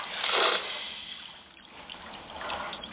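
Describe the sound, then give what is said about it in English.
Spilled water trickles and splashes steadily in a soft wash of sound, swelling louder near the start and again toward the end, with no voices. “I'm sorry. All the water. I didn't realize.”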